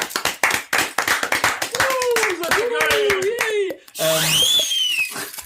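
An audience applauds, in response to a call for applause for the many donations to charity projects, with dense, steady clapping, joined by whoops and rising whistles from the crowd partway through, the cheering swelling toward the end.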